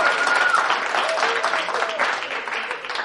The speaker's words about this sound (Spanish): A ver, denle un aplauso a Cristo, a ver, aplauso a Cristo.